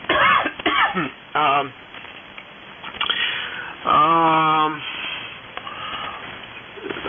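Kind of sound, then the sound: human body sound, coughing and throat clearing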